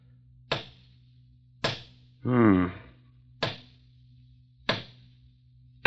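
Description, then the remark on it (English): A hammer knocks on a hollow-sounding stone in the wall of a house, with a niche behind it: five sharp, ringing taps spaced a second or so apart, with a brief spoken voice between the second and third strike over a low steady hum. “Oh, listen to that. Yes, it sounds hollow.”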